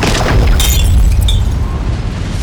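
A loud, concussive blast of rushing wind with a deep sustained roar, punctuated by sharp shattering crashes as it shatters a trident and rocks a tide goddess back, forceful with no voices.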